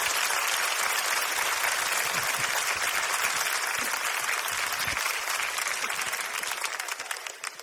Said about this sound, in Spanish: Un fuerte aplauso para ti, de verdad, gracias.